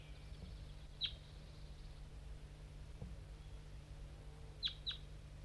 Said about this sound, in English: There's a wild crossbill around somewhere. Maybe not the same one I just heard before. This one's coming from the bottom of the hollow.